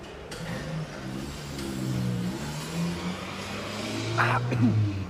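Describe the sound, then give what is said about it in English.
A heavy truck engine rumbles and revs up steadily, its pitch rising and falling as the truck drives off, loud with a brief clatter near the end. “We'll leave you a truck. Now get you gone.”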